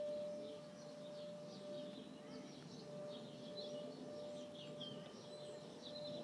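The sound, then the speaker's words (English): Sparrows and starlings chirp and twitter continuously, their busy chatter over the steady mechanical drone of a Hoover vacuum cleaner running. “I think there's sparrows and starlings as well.”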